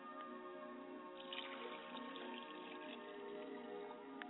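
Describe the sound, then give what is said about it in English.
Liquid is poured as a libation toward the east in a steady, unbroken stream for several seconds, a soft trickling splash with no voices, fairly quiet. “I pour libations to the east, and I say Ashe.”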